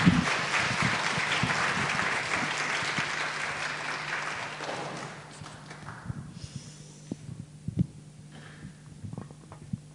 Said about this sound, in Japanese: 改めてですね、拍手で歓迎したいと思います。